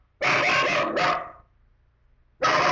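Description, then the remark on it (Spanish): A pet dog barks loudly, two quick harsh barks back to back, then a short pause before a third bark starts. No one speaks. “¿Es tu perrito?”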